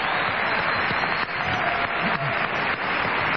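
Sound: audience ovation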